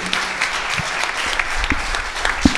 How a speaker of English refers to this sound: Let's everybody clap for the Lord. So lass uns den Herrn preisen.